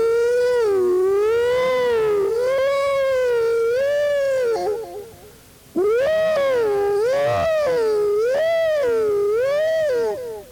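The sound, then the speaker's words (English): A man loudly wails in imitation of a fire siren, as done in a town's main street to call out the volunteer fire department when a fire was phoned in, his voice rising and falling in steady undulating sweeps, in two long sustained stretches separated by a brief pause for breath. “We did not have a fire siren.”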